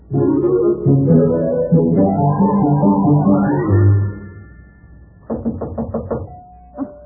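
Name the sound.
knocking on a door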